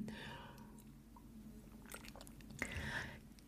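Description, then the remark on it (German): Someone takes a quick sip of water: a few soft, wet mouth sounds and a swallow, faint and low, with no talking. “Da soll ich schnell einen Schluck Wasser nehmen.”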